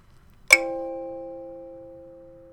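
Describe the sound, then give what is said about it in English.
A bell, rung by a man in red, is struck once, a sharp clang followed by a clear, sustained ringing tone that slowly fades over a couple of seconds in an otherwise quiet setting. “The man in red is ringing a bell. Ding dong, ding dong.”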